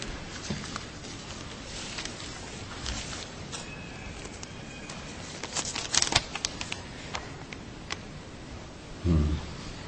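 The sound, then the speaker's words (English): Soft, continuous rustling of paper sheets being handled and shuffled, with a few sharper crinkles and flicks in the middle and a brief low thump near the end. “We got a lot of pieces of paper here.”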